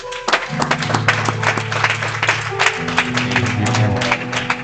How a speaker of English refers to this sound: Hand clap for the Lord.